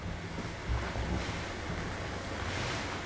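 A steady, continuous rush of flowing stream water outdoors at Ougagour, in the stream section near the Blagour spring, even in level, with a low rumble of wind underneath and no voices.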